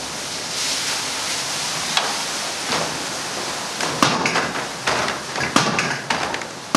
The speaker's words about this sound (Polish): Odwracamy się w drugą stronę i to jest ten młot. Tak, to jest ten młot. Możemy go uruchomić. O, chętnie. Będzie głośno.